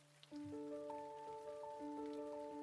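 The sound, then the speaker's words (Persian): Steady rain patters softly beneath sustained, droning musical tones that swell in after a brief quiet start, forming a continuous, gentle wash with no voices. “هوا همینطوری بود، بارون زده بود و شهر دلگرفته رشت و خیس کرده بود و تب و تاب پیاده روها رو بیشتر.”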